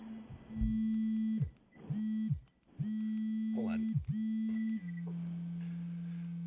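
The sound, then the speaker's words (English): A steady, loud electric buzz from the vibration motor of an inflatable device with an air pump cuts on and off in several bursts, then settles into a continuous, slightly lower-pitched drone. A person speaks briefly over it. “Oh, that's the vibrating part.”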